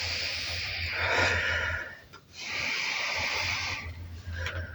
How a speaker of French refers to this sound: Prenez le temps de tonifier la respiration, d'inspirer, de souffler de façon tonique plusieurs fois pour faire remonter le niveau de vigilance.